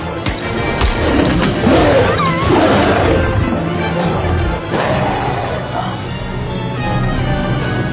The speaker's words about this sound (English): Let him roar. It makes a swell picture.